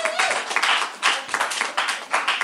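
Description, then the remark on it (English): A crowd applauds a new conductor in a dense, steady wash of clapping that stays loud and bright for the whole stretch, with slight surges and dips and no voices over it. “Give it up for not just first chair soprano sax, but new conductor,”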